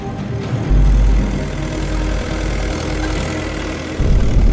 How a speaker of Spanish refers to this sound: Pero uno de los vecinos rompe la solemnidad del acto. Lo que hizo fue montarse en su tractor y estar por el exterior, pues nada, pegando acelerones para hacer ruido y molestar lo más posible la ceremonia y a los asistentes.